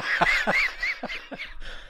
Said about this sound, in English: can you not cough? Sorry.